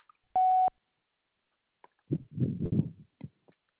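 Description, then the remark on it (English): A single loud, steady electronic beep lasting about a third of a second, an answering machine's tone for re-recording a message, followed after a pause by muffled, low rumbling and thumping noises. “Please re-record your message at the tone.”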